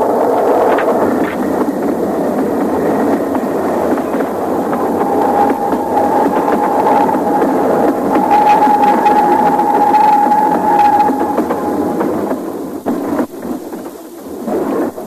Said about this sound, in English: Excuse me, sir. I hope to see the train go by.